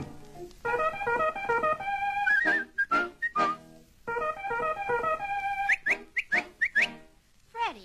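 whistle

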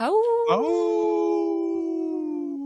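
wolf howling

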